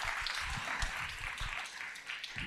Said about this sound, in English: Is that a round of applause? Is that worth it? There we go. Right there.